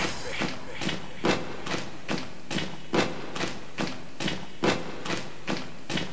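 Feet stomp steadily on a floor, a quick even run of heavy thuds, roughly two or three per second, fairly loud with no voices.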